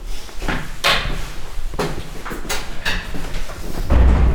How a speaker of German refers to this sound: Wir gehen jetzt zusammen ins Kulturquartier hinein. Genau, ins alte Schauspielhaus. Der Schlüssel klickert und die Tür ist auf. Nach Ihnen.